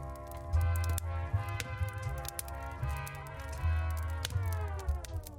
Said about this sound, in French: C'est le feu de joie qui brûle sous l'envie de frivoler.